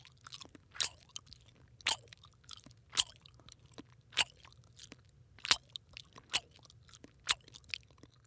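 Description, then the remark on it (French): A giraffe chewing leaves: steady, crisp crunching bites repeating about once a second over a low background rumble, with no voices. “la girafe mâche ses feuilles.”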